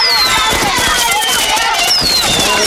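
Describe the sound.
Fireworks go off: rapid crackling bursts and pops with high whistling streaks sliding downward, a dense, continuous barrage with a hint of voices in the background.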